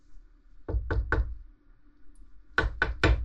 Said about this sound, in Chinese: 哎，有人敲门吗？ 是。会是谁呢？这可是独立病房。 对哦，大早上的，会是谁呢？